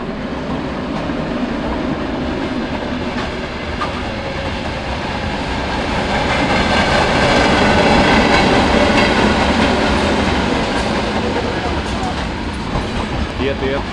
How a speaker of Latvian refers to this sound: Vai tas ir tikai tie prečinieki? Prečinieki divreiz nedēļā iet arī pasažieru vilciens.